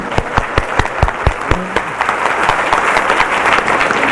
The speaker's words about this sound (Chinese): 我们再一次多谢合唱团，佢将非常有安慰、有盼望，又藉着好优美的音乐带俾我哋。 好不好？我们再一次用比较热烈一点的掌声来回应他们，好不好？